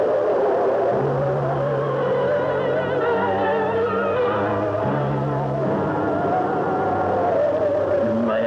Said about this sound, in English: I don't like this wind. It's coming from a bad direction. We must get the tent up at once. This snowstorm is blocking our view.